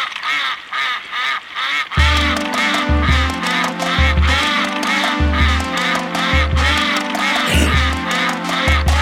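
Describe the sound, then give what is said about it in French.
Nasal duck quacks repeat in quick bursts, woven into an upbeat instrumental tune that picks up a pulsing bass line after a couple of seconds; no one speaks. “le canard à la radio dans le transistor.”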